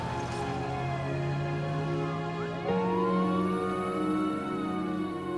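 ambulance siren driving away

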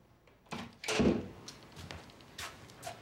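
office door closing

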